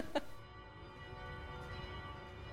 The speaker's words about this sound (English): I've come down to central Warsaw. The bells are ringing just as they were when I was here on a bright, sunny May the 1st in 2004, the day Poland joined the European Union.